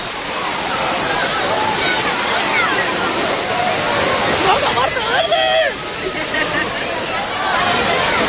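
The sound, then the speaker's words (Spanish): Water in an artificial wave pool, where the waves start every hour on the hour, sloshing and rushing in a loud, steady wash, with a babble of crowd voices and a few brief shouts mixed into the roar. “Bueno, pues ya sabéis, cada hora pues tenéis una cita en esta piscina artificial o esta playa artificial, la piscina de las olas.”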